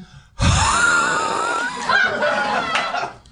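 A raspy, gurgling growl pushed from the throat starts abruptly and rumbles on for about three seconds, its wavering pitch rising and falling with a rough, breathy texture.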